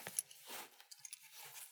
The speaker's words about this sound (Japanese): まずは、チャックを下ろして、ベルトを外して、